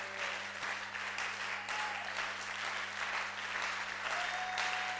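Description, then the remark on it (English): A crowd claps in praise to God, applauding steadily for several seconds, the dense clapping filling the space at a fairly even level, with a faint hum running underneath and no one speaking. “Oh, I thought you would clap in the moment of power.”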